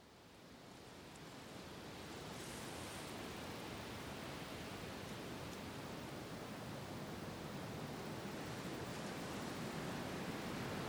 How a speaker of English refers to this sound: And now you can drift away to the relaxing sound of the sea.